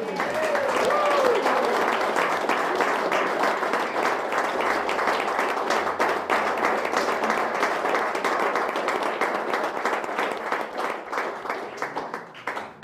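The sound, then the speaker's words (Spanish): A group of people applauding outside, a dense crackle of many hands clapping that holds for about thirteen seconds and thins slightly toward the end. “Es que hay gente aplaudiendo afuera, que tú no se estás registrando en ningún micrófono.”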